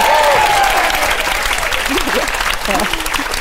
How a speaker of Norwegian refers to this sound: Nei, vi må klappe for det!